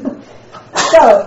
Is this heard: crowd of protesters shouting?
no